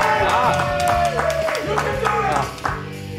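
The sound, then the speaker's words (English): A live, socially distanced crowd of real people, not piped-in sound, cheers loudly, with whooping voices rising and falling over scattered handclaps, steady for a few seconds before easing slightly near the end. “Wow, cheering. There must be live bodies there.”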